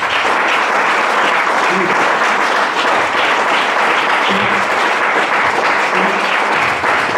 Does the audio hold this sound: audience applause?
yes